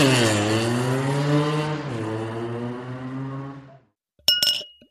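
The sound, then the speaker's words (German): A sustained, engine-like drone fades to silence. Then beer glasses clink together in a toast, one bright ringing clink near the end with a short shimmering decay. “Ah, zweiter Anlauf und jetzt mit Glas sogar.”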